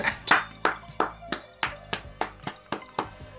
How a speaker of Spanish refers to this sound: Esperá que me pare y esta... aplaudo. Pará.